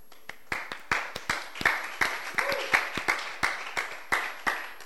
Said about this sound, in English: I can understand why you are not excited about that clap. Oh, I can understand.